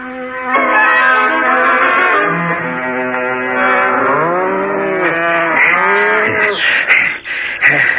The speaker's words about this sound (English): Gray Brother and I have separated the cows from the bulls and the buffaloes.